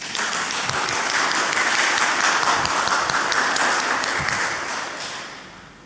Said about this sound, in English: So give me a round of applause.